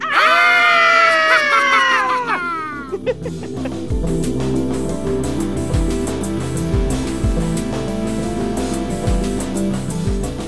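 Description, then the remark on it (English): Several voices let out loud, overlapping mock-horror Halloween screams for about two seconds, dissolving into laughter, followed by a steady musical bed with a repeating low bass pattern. “And to introduce Scream Time, I think we should all give our best Halloween scream.”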